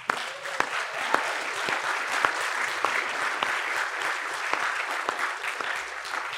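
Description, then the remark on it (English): An audience applauds a couple's 50 years, dense overlapping hand claps forming a continuous wash of sound with a few sharper individual claps standing out, sustained for several seconds without talking. “but they'll hear if we applaud their 50 years.”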